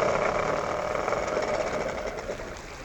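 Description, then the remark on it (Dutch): A steady mechanical motorboat engine drone on a river runs throughout at an even level, a low rumbling idle with a faint rapid knocking texture and no voices. “Zet de motor maar stil.”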